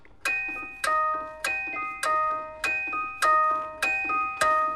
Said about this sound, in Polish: Tik-tak, tik-tak, tiku, tiku, tiku, tak.